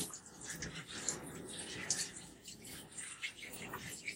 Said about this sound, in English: So I guess I decided to record while I'm in the shower.